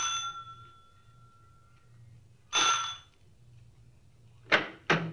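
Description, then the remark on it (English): A police officer rings the front doorbell of a large house converted into a boarding house, at night: a bright, decaying chime, rung again a couple of seconds later, then two quick sharp knocks follow over a low, steady background hum. “I rang the front doorbell.”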